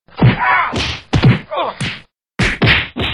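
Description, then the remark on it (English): A rapid series of punchy whack sound effects, about six sharp impacts in quick succession with a brief pause midway, loud with no voices. “Now imagine getting punched in the face one time by each person on this godforsaken planet.”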